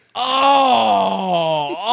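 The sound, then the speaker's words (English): A loud, drawn-out groan of disappointment from the crowd at the 2009 NFL Draft as the Oakland Raiders select wide receiver Darius Heyward-Bey with the seventh pick, holding steady for nearly two seconds before sagging lower in pitch and lifting slightly at the end, with no talking. “I'll never get over the crowd sound.”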